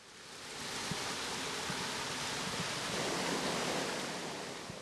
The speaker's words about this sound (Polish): To chyba będzie wspominany przeze mnie potok oruński. Kaskadowo spływający z górnych dzielnic Gdańska. Chyba z okolicy Zakoniczyna? Generalnie Gdańsk Południe, tak, dokładnie. W przedstawionym miejscu, w którym tutaj stoimy, jest kaskada wodna,